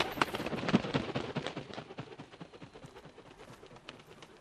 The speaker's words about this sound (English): I love the sound of grunting koalas. And bird wings flapping.